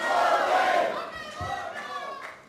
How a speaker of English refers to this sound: All riled up now, the crowd gets behind Bodie's plea for one last ride before facing justice.